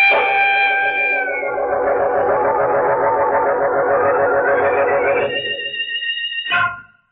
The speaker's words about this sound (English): I hear sirens. It's the police. Oh, the police.